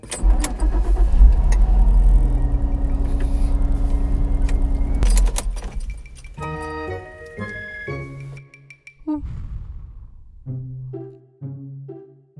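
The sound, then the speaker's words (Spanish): A car engine rumbles steadily for about five seconds, then abruptly cuts out and dies as the car enters the highway leaving the city, followed by scattered short tonal chimes and faint metallic jingling in the quiet. No one speaks. “Al entrar a la carretera, ya dejando la ciudad, el auto presentó problemas y dejó de funcionar.”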